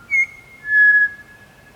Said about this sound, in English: We record for just 20 minutes. But pied butcher birds are persistent singers. They can sing up to 7 hours at a stretch.